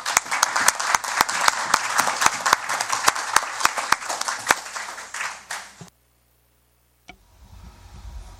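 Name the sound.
round of applause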